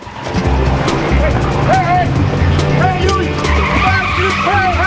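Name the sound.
car speeding off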